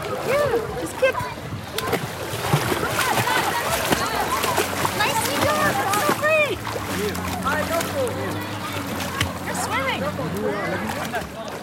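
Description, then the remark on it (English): Loud, echoing din of a busy swimming pool: constant splashing and sloshing water mixed with a chatter of many voices and children's shouts, steady throughout. “The loud din of the pool drowns out his occasional outbursts.”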